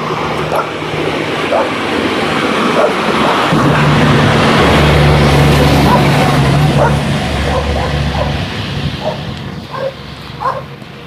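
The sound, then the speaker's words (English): A heavy cement truck rumbles past outdoors, its deep engine drone swelling loudest midway and then fading, while several dogs bark in short, scattered bursts throughout. “Cement truck coming.”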